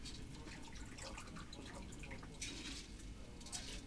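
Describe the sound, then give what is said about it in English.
A shaken cocktail pours steadily over ice into serving glasses, a continuous trickle and splash with brighter crackling bursts partway through and near the end. No one speaks. “So there's your serving glasses. You're going to want to fill those with ice.”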